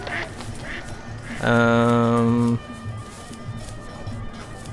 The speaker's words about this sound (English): I think I only got one goat. I think we need one more. Well, I'm gonna get this. I hear a goat over here. We're gonna get it.